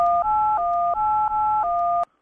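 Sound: telephone keypad tone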